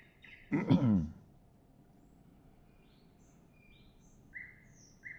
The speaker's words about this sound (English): Start the birds, love the nightingale.